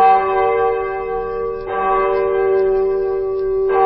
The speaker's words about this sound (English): Well, that's easy. It's a bell.